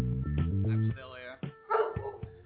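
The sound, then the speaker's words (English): A man makes drawn-out, wavering hooting calls, answered by a few short, sharp dog barks, the barks overlapping his voice near the end. “At least the dog listening to me, goddamn it.”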